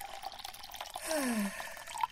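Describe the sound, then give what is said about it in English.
A liquid called Monster blood pours into a container to be blended for about a second, a short gurgling stream with a falling pitch, set against soft drips and quiet background noise. “Just gonna pour some of this in.”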